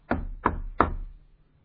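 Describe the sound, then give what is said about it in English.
Three firm knocks on a door, evenly spaced about a third of a second apart, fairly loud, with a short hollow ring after each and no talking. “I can come knocking on a door”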